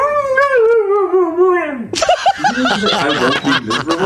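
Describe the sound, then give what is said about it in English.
A dog lets out a drawn-out, wavering howl that rises and falls like a spoken sentence, sounding like "I will not be miserable", followed immediately by loud laughter from several people. “I'm going to play it one more time because the dog says, I will not be miserable.”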